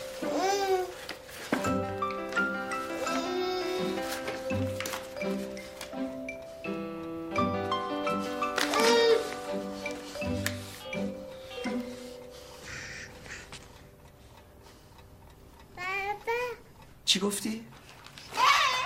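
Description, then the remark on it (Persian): A baby babbles its first words, saying 'baba', in bursts of high, sing-song syllables, fairly loud, with steady background tones underneath and a few sharper squeals near the end. “حرف زد همین الان بچه حرف زد.”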